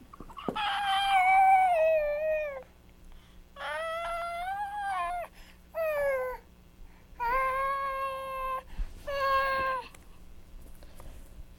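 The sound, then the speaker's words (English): Five loud, drawn-out goose honks with brief pauses between them, harsh and nasal, with no talking and a faint steady hum underneath. “Look at the goose.”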